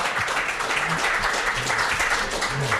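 An audience at the District 5 café in Hradec Králové applauds steadily, a dense wash of many hands clapping at an even, fairly loud level for the whole stretch, with a few low murmurs underneath.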